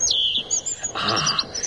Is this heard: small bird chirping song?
yes